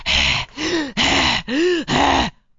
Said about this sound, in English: He's breathing to try to get more air so he can get more power.